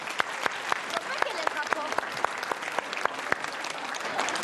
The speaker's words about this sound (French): Bon, belle performance. On peut les applaudir.